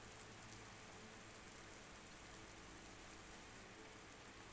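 rain falling

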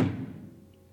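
door slammed shut

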